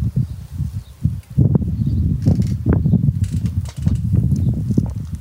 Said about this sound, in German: Hört den Wind im Hintergrund, hört das Rauschen.